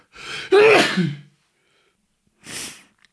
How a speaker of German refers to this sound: Ja, und bei so einem Nieser, das sind auch die Bauchmuskeln im Einsatz.